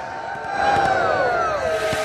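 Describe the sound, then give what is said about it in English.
Iraqi soldiers cheering together, a loud, sustained mass of overlapping shouting voices with rising and falling pitches that swell and carry on for about two seconds. “Iraqi soldiers standing behind them cheer.”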